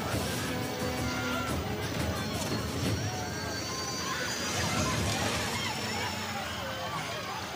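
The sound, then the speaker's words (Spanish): Continuous splashing and sloshing as people wade out of water after a plane crash, a dense, steady churn of movement throughout, with indistinct voices mixed into the noise. “¡Vamos, venga! ¡Levanta! ¡Salgamos del agua!”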